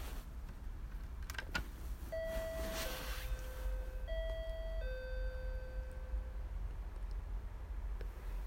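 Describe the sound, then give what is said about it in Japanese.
The intercom doorbell at the director's house, pressed by a visitor, plays a four-note chime, steady tones stepping up and down over several seconds, heard outdoors against faint background noise with a couple of brief clicks before it starts. “じゃあ、監督さんのお家のインターホン押していきます。”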